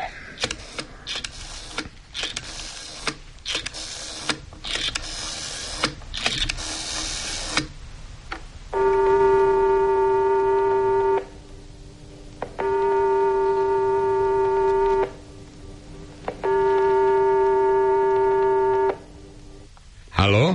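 A telephone being dialed to call about a Bösendorfer piano advertised for sale: a quick series of clicks and bursts, then three long, steady ringing tones separated by short pauses, each ring loud and buzzy with a fixed pitch.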